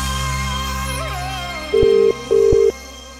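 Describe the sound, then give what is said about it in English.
A telephone ring sounds as two short, steady electronic tone bursts in quick succession, fairly loud over a constant low hum, after a faint warbling tone fades away, before the Tachyon TV answering machine picks up. “We can't come to the phone right now because we are hurling cheap, lazy insults at the stolen earth.”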